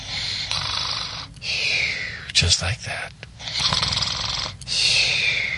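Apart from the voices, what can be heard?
snoring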